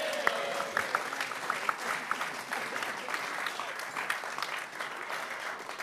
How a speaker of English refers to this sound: Our final speaker writes lyrically of landskipping, painters, ploughmen and places, skipping and tripping across our landscape. All aboard and applaud. Finally, we welcome Anna Pavord.